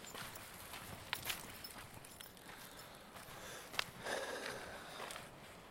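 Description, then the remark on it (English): Quiet footsteps of a person walking on an outdoor path by a dam, a few soft, irregular crunching steps over a faint steady background hiss, with no one talking. “Oh, now as I walk further on, I can see the farm.”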